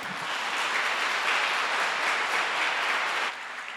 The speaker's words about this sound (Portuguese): Pode se assentar, dá uma salva de palmas a ele, vamos lá. Dá uma salva de palmas bonitinha, vamos lá.